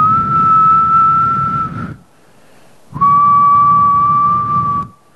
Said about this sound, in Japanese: So I just started whistling over this guy. うん、なのでその男性の前でこうやって口笛を吹いてみたんです。 I just started off real slow. I was like, でゆっくりこうやってふーってやったんです。